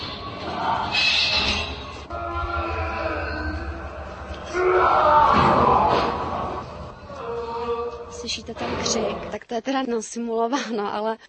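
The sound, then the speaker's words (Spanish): A staged scream of a tortured prisoner in a former jail used until 1948, simulating medieval torture used to force confessions: loud, drawn-out anguished cries and wails rising and breaking over about ten seconds, ending in shorter, choppy sobbing shouts. “Pueden oír el grito, no se preocupen, es un simulacro.”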